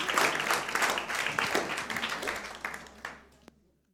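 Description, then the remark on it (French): A church audience applauds warmly to welcome a visiting pastor, with dense, overlapping claps that stay steady for about three seconds, then thin out to a few scattered claps and fade into silence. “J'aimerais qu'on puisse lui exprimer notre joie en applaudissant chaleureusement et en l'accueillant.”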